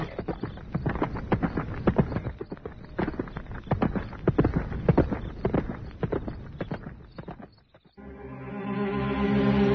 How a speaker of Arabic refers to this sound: هيا هيا أيها الحصان، انطلق بنا إلى حيث نحن.